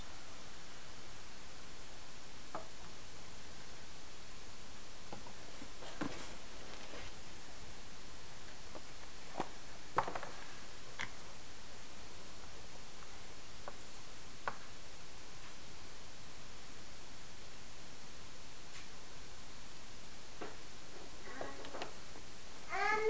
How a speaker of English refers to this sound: Okay, set it down. Mommy's making you some more. You're drinking so much milk.